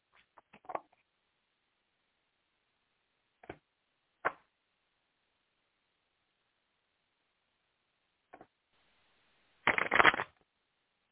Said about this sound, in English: Sorry, I got another deck, so I got to shuffle that deck.